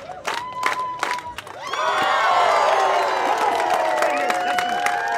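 A street theater audience bursts into loud, sustained cheering and whooping after a few scattered claps and shouts, following a performer's jump through a hula hoop onto hard concrete, the high-pitched crowd noise swelling and holding steady to the end.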